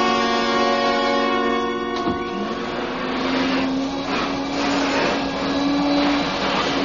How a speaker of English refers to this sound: Turn that vacuum cleaner off for a minute, will you, and come over here.